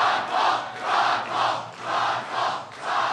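A packed crowd in a downtown bar in Columbia, South Carolina, cheers and roars as it greets Ron Paul, in rhythmic surges swelling about every half second like a chant, loud, with no clear individual speech.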